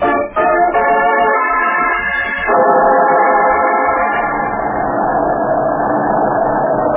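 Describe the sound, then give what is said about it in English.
A car engine idles steadily for several seconds, a continuous droning hum with a layered, slightly buzzing tone that shifts a little partway through. No one speaks. “Yeah, we better leave the car here and walk the rest of the way.”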